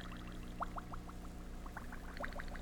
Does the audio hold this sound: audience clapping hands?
no